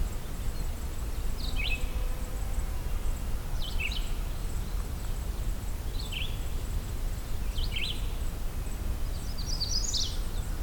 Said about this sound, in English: Yellow-rumped warbler.